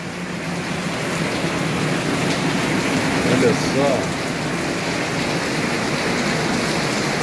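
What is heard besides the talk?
heavy rain downpour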